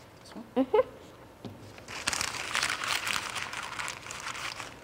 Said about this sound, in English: Now crumple up that paper, please.